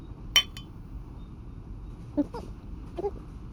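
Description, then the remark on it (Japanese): A single bright clink of glasses of a Valentine's cocktail tapping together in a toast, crisp with a brief ringing tail, followed by a couple of soft voice sounds over a low background hum. “お客様、乾杯いたしましょうか。 それではお客様との再会に 乾杯。”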